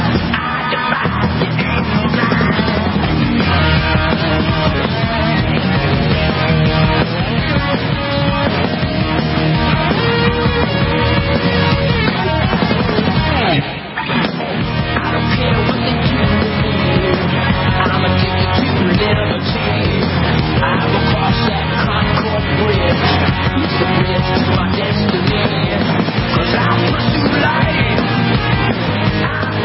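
A loud hard rock song plays continuously, with dense, driving distorted instruments and what sounds like shouted vocals, broken only by a brief dip about halfway through.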